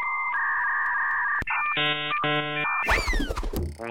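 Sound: dial-up modem connecting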